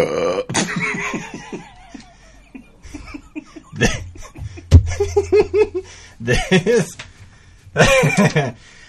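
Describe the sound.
A big, loud burp rumbles up low and drawn-out in the middle, with people talking and laughing around it.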